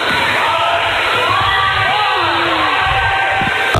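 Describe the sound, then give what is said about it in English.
Basketball fans in a packed arena yell a five-second count in unison during a game, a loud, sustained roar of many shouting voices that fills the whole moment without a break. “Our fans are yelling 5 seconds, and the officials hold up both hands.”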